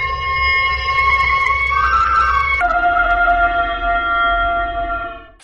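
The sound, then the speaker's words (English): A creature's loud, sustained shrieking howl of pain, anger and menace, like a thousand sirens in one, with layered siren-like tones, holding steady, then dropping abruptly in pitch partway through before fading out at the end. No one speaks. “It was a howl in which pain, anger, menace, and the outraged majesty of nature all blended into one hideous shriek.”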